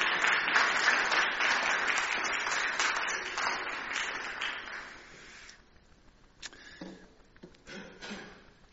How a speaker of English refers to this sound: Let's give her a round of applause for all that she's doing.